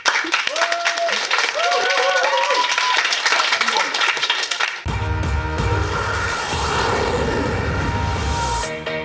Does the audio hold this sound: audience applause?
yes